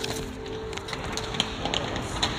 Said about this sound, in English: I unfold a piece of paper I had written some stuff down on to prep for this moment.